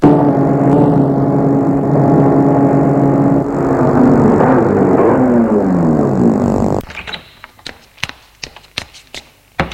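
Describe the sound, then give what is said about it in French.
A man gets into a car; its engine runs loud, its pitch rising and shifting as it pulls off, then cuts away abruptly into near quiet with a few sharp clicks and taps. “Puis il redescend et monte dans la voiture.”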